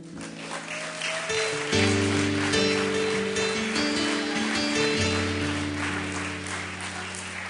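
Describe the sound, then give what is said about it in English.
An audience at a church service gives a clap offering to the Lord Jesus, clapping steadily in a dense, continuous wash of applause, while sustained organ or keyboard chords play underneath, swelling louder partway through. “Now let's give the Lord Jesus, hallelujah, a clap offering.”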